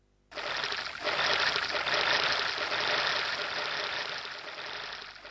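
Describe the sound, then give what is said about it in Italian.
Oars of Venetian rowing boats splashing into the water as some 15,000 rowers set off at once in Venice, heard as a steady, fairly loud rushing wash, without clearly separated strokes, and no voices over it. “Poi remi in acqua e via, partiti.”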